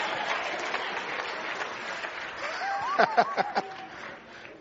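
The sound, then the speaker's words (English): A crowd applauds steadily for several seconds, a dense wash of many hands clapping with a few sharper claps near the end and a faint chuckle or cheer mixed in. “Clap your hand if you understand what I just said.”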